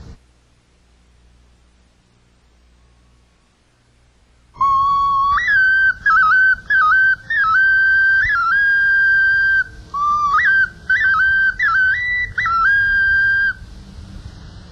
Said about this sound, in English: I believe it's an Indian snake pipe. It's shaped like a cobra's head. Very simply made, and very, very handy for calling up the spirits at night.